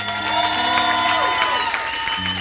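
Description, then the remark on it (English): An audience claps steadily and cheers for a couple of seconds, giving a group of men a hand, the dense clapping mixed with whoops and a sustained tonal hum underneath, loud and continuous throughout. “Hey, can we give these guys a hand?”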